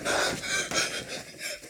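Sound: heavy panting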